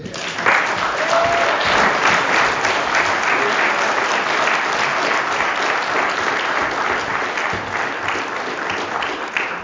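Sustained audience applause, a dense, steady wash of many hands clapping at fairly loud level for about ten seconds, with no voices standing out.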